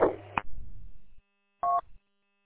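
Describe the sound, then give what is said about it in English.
Touch-tone beeps of a phone number being dialed: a couple of short two-pitch tones, then a pause and one more steady beep, with some low rumbling noise between them and no talking. “So, all right, I got to make a phone call here, and then I will be at our destination.”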